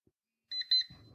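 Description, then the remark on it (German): A short electronic alarm-clock alert from a navigation app, set off on approaching the destination, Ulm Minster: a few quick, bright pulsing beeps, then a low rumbling noise as the tone fades. “Aktiviert sich der Wecker und gibt mir die Nachricht, du bist gleich da.”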